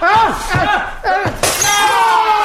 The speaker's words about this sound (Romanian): Am spart vaza, mă omoare nevastă mea.